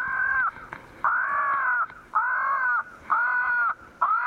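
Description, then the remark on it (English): Harsh, repeated crow caws blare in a steady series of four or five loud, drawn-out calls, a tape-recorded crow distress call broadcast at about 6 o'clock among tall pines and oaks near a ball field to keep crows from roosting, with brief gaps between each cry. “A tape recording of a crow distress call broadcasts the news that this is no place to spend the night.”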